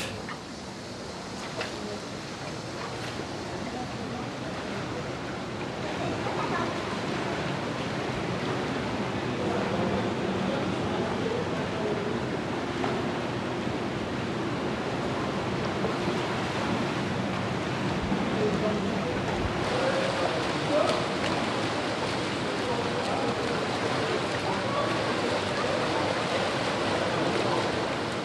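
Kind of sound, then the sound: household object, shower water running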